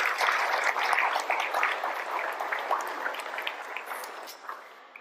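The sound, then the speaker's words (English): A crowd claps steadily on Mother's Day to honor mothers, grandmothers, godmothers and spiritual mothers, a dense wash of many hands with scattered sharp individual claps, holding fairly loud before gradually thinning and fading toward the end. No one speaks over it. “Can we just give them a round of applause for such an amazing thing that they do behind the scenes?”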